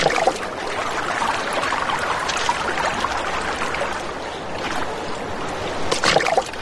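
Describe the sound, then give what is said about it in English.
A stream flows steadily nearby, with a continuous rush and babble of water that swells into a few splashier gurgles near the end. No voices. “Nearby, flowing water is a lifeline for semi-aquatic animals.”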